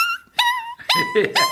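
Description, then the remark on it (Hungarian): A person imitates a whimpering, crying dog with a few short, high, wavering whines in quick succession, fairly loud, with breathy catches between them. “De hát van ilyen síró kutya.”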